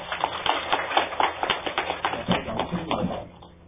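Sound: audience applause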